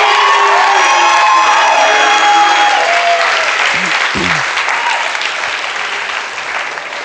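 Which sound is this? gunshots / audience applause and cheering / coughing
audience applause and cheering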